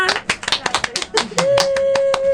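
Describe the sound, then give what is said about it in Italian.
An audience outside applauds with dense, irregular claps throughout, somewhat muffled, while a steady held vocal tone and faint talking sit underneath in the second half. “Vai, sentite? Cioè, ci applaudono anche da fuori, ci hanno parlato fuori, ci stanno aspettando dopo quando usciremo, però adesso con calma, insomma.”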